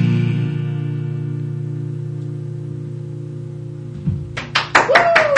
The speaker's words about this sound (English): Thank you very much. I feel cruel, me just clapping out, just me on my own. There should be a lot of people in here.